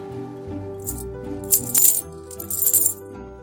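Silver and copper coins, six silver coins and two handfuls of copper coins, clink and jingle in a few bright bursts, a handful shaken or poured, over a low steady background hum.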